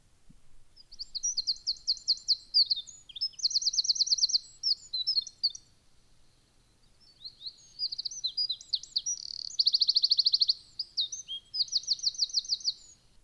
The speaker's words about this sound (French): C'est le merle noir. Il appelle, babille, flûte, siffle. Ce chant, lancé d'un perchoir exposé, est une belle série de notes mélodieuses et flûtées, des notes claires et sonores formant des phrases, entrecoupées de silence et de reprises.